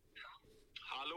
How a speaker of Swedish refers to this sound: Nu ringer han!